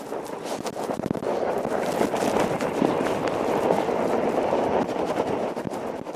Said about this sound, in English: Colleagues and I also took a wild 3-kilometer long sled ride, which knocked our socks off. And if you don't believe me, listen to this.